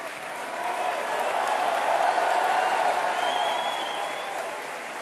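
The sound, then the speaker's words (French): A large audience applauds steadily, a dense wash of clapping that swells slightly in the middle and holds for several seconds, with faint crowd murmur mixed in, applauding the other candidates from the first round of the French presidential election. “Merci à vous de les avoir tous et toutes applaudis à l'instant.”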